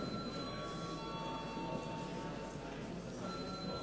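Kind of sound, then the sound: signal or alarm, parliament voting bell ringing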